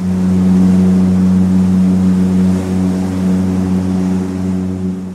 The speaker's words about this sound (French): pour une rotation de 3 mois au départ du Havre et que je me suis retrouvée à enregistrer les ambiances du navire, la voix de ces hommes, les acoustiques du bateau et l'histoire d'une traversée en mer autour du globe d'un navire marchand.